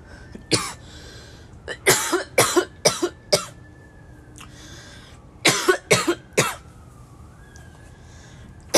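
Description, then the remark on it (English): Harsh coughing after taking a hit comes in two clustered fits of several hacking coughs each, with a faint siren wailing steadily in the background between bursts. “I feel like I've been ranting on a rage, and I haven't taken a hit except for the first one, so let's do that.”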